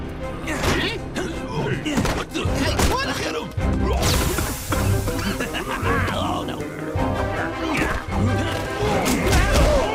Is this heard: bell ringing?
no